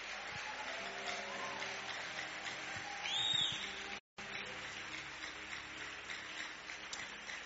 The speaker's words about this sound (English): You can rise on your feet and give the Lord a big hand of praise. Hallelujah. Okay. God bless you. But those of you who are giving the Lord a clap offering, I will expect to hear your clap.